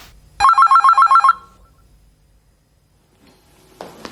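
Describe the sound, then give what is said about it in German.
A loud telephone bell rings in one short burst of rapid, trilling pulses, then stops, leaving near silence before a brief rustle at the end. “Du machst kurz, meine Freundin braucht das Telefon.”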